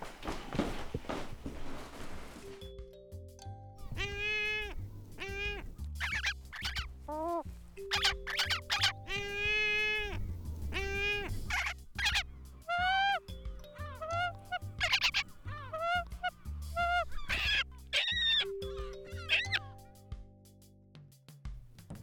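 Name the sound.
gulls calling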